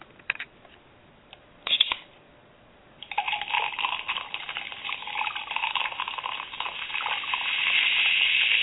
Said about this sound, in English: Well, folks, I have to pour another beer on that one.